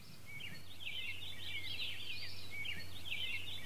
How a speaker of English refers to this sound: What is the bird that sounds like a gym teacher's whistle?